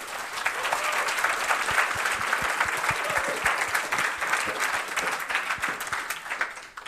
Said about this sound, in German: Deswegen danke auf jeden Fall für eure Eindrücke zu eurem Projekt und damit nochmal einen Applaus.